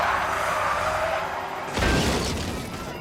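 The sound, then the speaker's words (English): A heavy car fleeing police fishtails and skids with a sustained, wavering tire screech for about a second and a half, then slams into a fence, a tree and a telephone pole with a loud, crunching crash and scattering debris that trails off. “He started to lose it, went to the left, went back to the right, skidded, and hit a fence and a tree, hit a telephone pole.”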